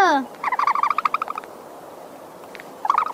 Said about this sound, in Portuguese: Aliás, quer ouvir o som que o avestruz faz?